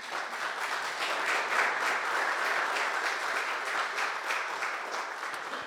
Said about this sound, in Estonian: Ja teeme aplausi.